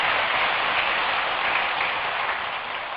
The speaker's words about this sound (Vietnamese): Nếu làm được và thấy nó dễ, quý vị hãy dành một tràng pháo tay để cam kết nó.